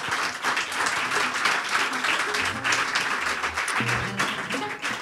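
Sustained audience applause welcoming a maestro, a dense, steady wash of many hands clapping at full loudness for the whole stretch, with faint murmuring voices mixed underneath.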